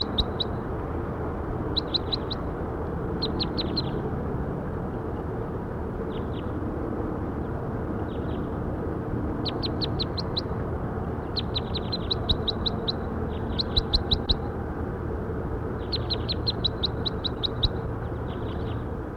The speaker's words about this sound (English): That was bird 5-7. That was bird 5-7.